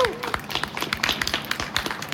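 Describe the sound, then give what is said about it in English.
A crowd applauds steadily to welcome a speaker from the local Champaign-Urbana DSA, many overlapping hand claps forming a dense, crackling patter that holds at an even level throughout, with faint voices mixed underneath. “Give him a warm welcome.”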